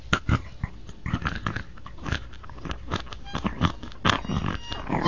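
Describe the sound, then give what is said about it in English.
A voice imitates a crackling campfire with a steady, irregular stream of mouth-made pops, snaps and hisses, moderately loud and continuous for several seconds, with no talking. “That's a campfire.”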